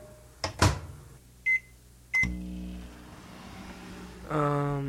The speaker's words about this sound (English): Pop it in the microwave here.